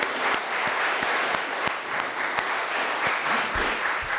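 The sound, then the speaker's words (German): A church audience applauds the organist, who is playing his last service after 38 years, steadily, a dense wash of many hands clapping with a few sharper individual claps standing out, sustained at an even level with no talking. “Also ich finde, das ist ein Applaus wert.”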